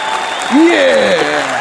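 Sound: children clapping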